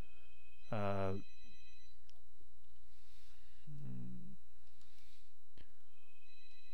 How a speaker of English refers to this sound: Sorry, phone rang.